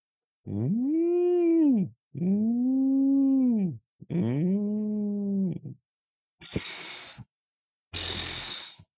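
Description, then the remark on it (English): A voice imitates a big whale in the ocean with three long, swooping moans that rise and fall in pitch, followed by two short breathy hissing bursts like the whale spitting water out of its blowhole. “Petey the pirate and his crew were off in the ocean near a big whale, and the whale was making its normal whale noises.”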